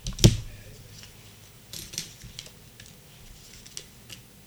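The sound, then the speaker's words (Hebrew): A sharp papery snap opens the sequence, followed by a few softer slaps and light shuffling rustles as three tarot cards are drawn and laid out one after another for a Virgo reading, fairly quiet. “שלושה קלפים.”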